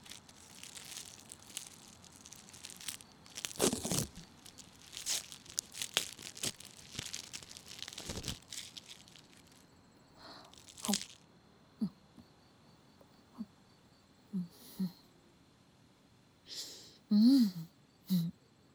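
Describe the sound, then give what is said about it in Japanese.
Several seconds of dense crinkling and rustling, then someone eating a second protein bar in small bites: a handful of short, separate crunches and chewing sounds spaced out, with no talking. “よし、んじゃ2個目からはチビチビ食うとするか。”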